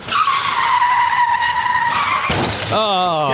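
A loud, sustained tire screech for about two seconds ends in a sudden crunching crash, followed by a ringing, warbling tone as the wreck settles. Car crash sound effect, no voices.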